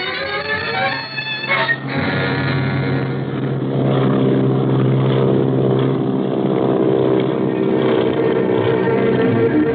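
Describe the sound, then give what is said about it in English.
A propeller airplane engine drones steadily and loudly for about ten seconds, a continuous low throbbing hum with no talking over it, from a 1937 recording of the radio drama Speed Gibson. “it's a Jewish smuggler on the plane!”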